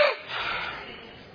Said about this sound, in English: Number three, diaphragm breathing. Everybody all together.